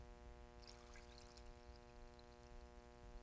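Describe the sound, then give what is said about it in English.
Liquid splashes and gurgles briefly as it is poured into a container, a short burst near the start fading into a steady low electrical hum with no one talking. “You know, I pour this in here.”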